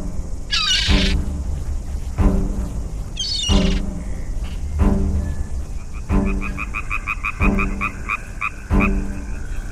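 A frog croaks loudly, about seven deep rasping croaks at a steady, unhurried rhythm, with faint higher chirping calls in the background and no talking.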